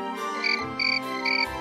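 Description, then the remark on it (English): Three short, bright chirps from a little cricket in Geppetto's house in Tuscany, Italy, repeat at an even pace, clear, over a soft, steady musical background with no talking. “A little cricket was always around.”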